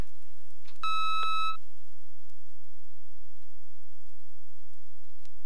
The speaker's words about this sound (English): There is, however, an annoying beep that is pursuing me. I don't know when it will come next. Wait for the beep.